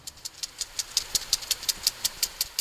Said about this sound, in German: Es hat üppig geregnet, der Wagen bleibt im Schlamm stecken. 5 kräftige Männer kommen zu Hilfe, heben den Wagen an und die Fahrt geht weiter.